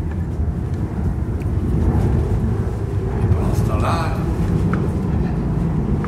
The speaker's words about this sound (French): les jets de la High Society décollent et atterrissent.